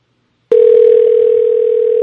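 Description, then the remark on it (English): A loud, steady telephone ringing tone on speakerphone, as someone calls a man, starts abruptly after a brief silence and holds unbroken at one pitch, with no voices over it. “You calling him? Yeah.”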